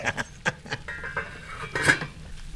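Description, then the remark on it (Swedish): Pots and pans clatter and clink in a quick, irregular burst of metallic knocks while someone cooks, with a brighter ringing hit near the end and a faint hum underneath. “Nu kokar jag.”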